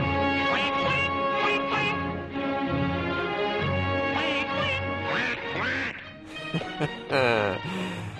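Loud, nasal cartoon duck quacks burst out repeatedly in a swaying three-beat rhythm over a full orchestral waltz, the quacks bright against the lush music; from the 1943 Looney Tunes cartoon Corny Concerto, set to Johann Strauss's Blue Danube Waltz.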